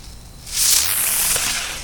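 A small spinning flying bee firework bursts into a loud, sustained hissing whoosh with a bright, whistling edge, starting abruptly and staying intense for over a second. It flies sideways rather than up, passing right by the person who lit it.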